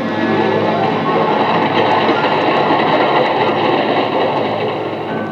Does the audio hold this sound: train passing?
yes